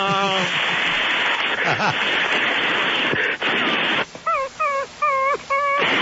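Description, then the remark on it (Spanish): A monster mosquito sound effect: a harsh, noisy buzz gives way to about five short, high whining yelps in quick succession that sound oddly like a dog whimpering, loud. “Ese mosco era como un perro.”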